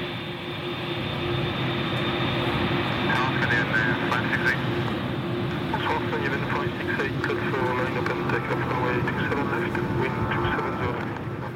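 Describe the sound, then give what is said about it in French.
An airplane on a flight from Roissy to Kathmandu flies with a steady, loud droning roar that holds for the whole stretch, with faint muffled voices mixed underneath. “On va aller à Roissy et premier avion pour Katmandou.”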